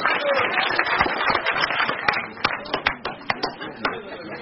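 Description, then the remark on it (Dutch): An audience applauds after a toast to the next 75 years of AVRO, in a dense, crackling wash of clapping that gradually thins out, leaving a handful of separate sharp claps near the end with some crowd murmur underneath. “APPLAUS.”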